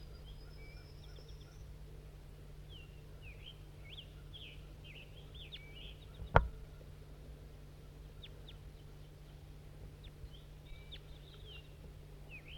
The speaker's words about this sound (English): Wild bird. Female bird. And I don't think it has a band. Stop. Start recording, wild bird.